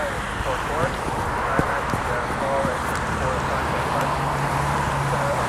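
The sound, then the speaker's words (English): Street traffic passes on the left near a subway station in a continuous, fairly loud roar and hiss with no pauses, with indistinct voices and small scuffing sounds mixed into the outdoor din. “Anyway, traffic's of course on my left.”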